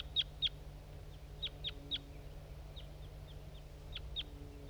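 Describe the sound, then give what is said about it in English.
A wild male crossbill sings on its way in, in short, sharp high-pitched notes, some doubled, scattered irregularly across a few seconds over a steady low hum. No one speaks. “Okay, there's some crossbills around now. Wild birds. That's a male that was singing on its way in.”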